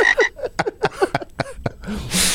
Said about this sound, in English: Kind of does sound like the Cuban tree frog at night.